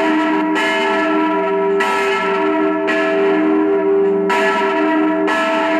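Cathedral church bells ring out loudly and steadily, their rich harmonic tones overlapping and sustaining, with fresh strikes arriving roughly every second or so. No one speaks.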